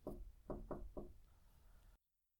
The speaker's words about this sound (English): Professor Shen? Came a thin voice from the door, accompanied by a weak knock.